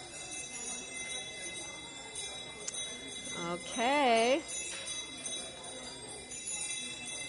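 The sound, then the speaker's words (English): Sustained high bell tones, rung by bell ringers at the Unitarian Universalist Fellowship of Manhattan, ring steadily through the whole stretch, shimmering at moderate volume, while a single voice speaks briefly in the middle over the lingering resonance. “Thank you, bell ringers.”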